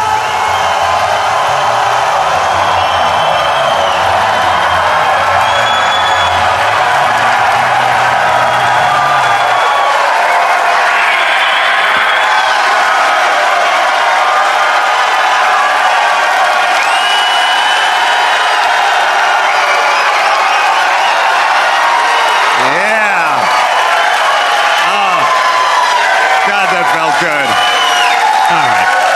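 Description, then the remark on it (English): A large live audience cheers and applauds continuously as Adam Carolla is welcomed to the stage, with dense clapping, whoops and shouts at a loud, steady level throughout. “Crowd. That's why.”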